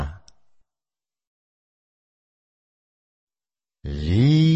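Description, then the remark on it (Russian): A fox gives a loud, drawn-out rising cry near the end, following a brief sound at the start and a long stretch of silence. “Лиса.”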